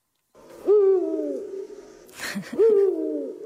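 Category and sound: bird, eagle owl hooting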